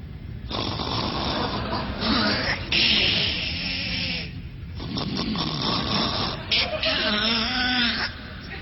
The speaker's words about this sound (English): Well, that's exactly what …'s snoring sounded like.